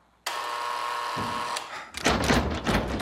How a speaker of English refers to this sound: pulls on the door, but it doesn't open. You have to wait for the buzzer to stop or it'll jam the lock.